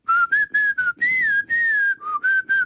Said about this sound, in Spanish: Pero no, ¿usted cree que eso es silbar?